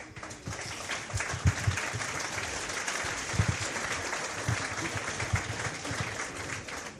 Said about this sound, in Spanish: Bueno, pues gracias con los aplausos.